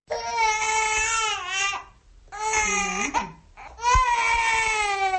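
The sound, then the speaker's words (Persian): A newborn baby girl wails in three long, high-pitched bursts separated by brief pauses for breath, loud with no other voices present. “صدای گریه طفل نوزاد است که برابری به دنیا آمدنش سببگار اختلافات میان پدر و مادر و به هم زدن یک آیله گشته است.”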